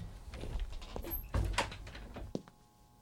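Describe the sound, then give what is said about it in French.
A door that had not been closed properly opens with a low rumbling thud and some scraping, followed by a couple of sharp clicks as it settles. “t'as pas bien fermé la porte.”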